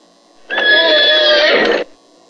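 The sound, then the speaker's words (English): A single loud horse whinny lasting just over a second, a sustained high-pitched neigh with a wavering tone that cuts off abruptly, with no talking over it. “The horse.”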